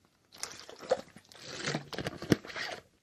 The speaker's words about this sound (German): Darauf trinke ich einen Schluck Wasser.